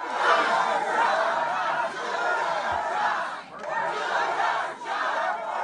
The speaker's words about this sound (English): U.S. Senator Joni Ernst faced a crowd of more than 100 at a forum in Maquoketa. The crowd, if you didn't quite make it out, chanting, "Do your job and work for us,"